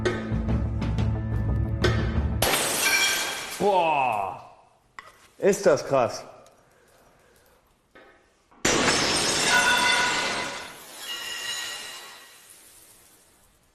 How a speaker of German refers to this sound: Wie kriegt man denn so eine Scheibe kaputt?